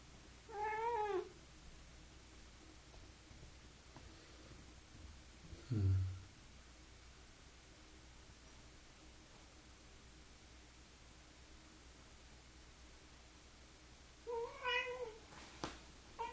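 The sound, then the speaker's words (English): A cat meows twice, once near the start and again near the end, with a long stretch of quiet hiss between and a soft thump around the middle. “Every time you hear the cat meow, she's inviting you into a deeper level of embodied awakening.”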